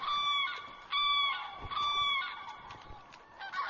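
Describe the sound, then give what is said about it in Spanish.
Common cranes call loudly at a lake in harsh, trumpeting bursts that overlap and repeat in quick succession, over a faint outdoor background. “Y el escándalo continuará por unos días más, antes de que el silencio reine una vez más en el lago y las aves grandes empiecen a empollar.”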